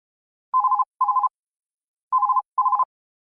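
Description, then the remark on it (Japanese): An office telephone at a company rings with an electronic trilling tone in two double bursts, each pair separated by a short pause, clear with no voices. “会社で女の人と男の人が電話で話しています。”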